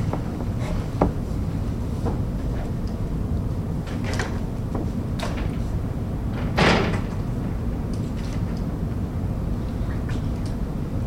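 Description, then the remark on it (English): A door is opened as a board meeting in Wisconsin convenes into open session, with a few light latch clicks and knocks followed by one louder, sharper bump partway through, all over a steady low rumble with no one talking. “So, you want to open up the door and”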